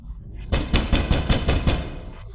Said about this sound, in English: As I walked toward the office, I heard knocks on the door of her makeshift bedroom. At first they were faint, but as I got closer they became louder.